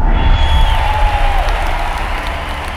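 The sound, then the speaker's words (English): A large crowd cheers and applauds as H.P. Hansen steps out of a balcony door, a dense, continuous roar of clapping and shouting, steady and loud throughout, with a few raised voices whistling or calling above the din. “Hansen steps out, and the large crowd bursts into cheers.”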